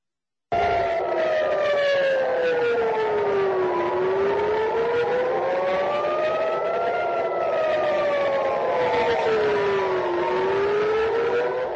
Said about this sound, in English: Israel is being pounded by Iran. Sirens sounding over Tel Aviv as a barrage of missiles hit the nation.